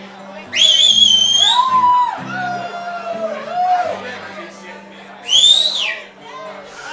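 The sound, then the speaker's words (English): A loud, shrill whistle cuts through the murmur of a crowd, one long sustained blast followed a few seconds later by a shorter, sharper one, with voices chattering underneath. “That's a hell of a whistle.”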